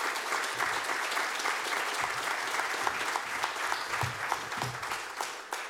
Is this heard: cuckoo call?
no